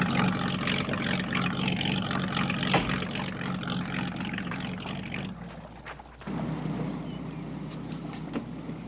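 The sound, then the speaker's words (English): A helicopter coming in to refuel: its steady, rushing engine roar fills the scene, loud and continuous with wind noise, briefly dipping for a moment before surging back at full strength. “The copter's coming in to refuel.”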